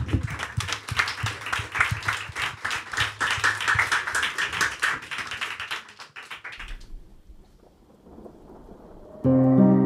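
An audience breaks into loud, dense applause, a steady flurry of many hands clapping that stops after about six seconds. A brief lull follows before music kicks in at the end.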